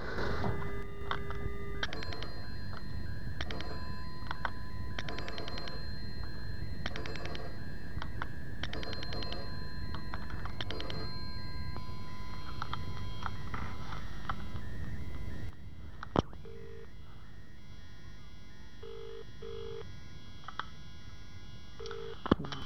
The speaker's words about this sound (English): If you want to know what's happening, ring them, okay? Ring them. I said ring them. Yes. That'll do for a dial tone.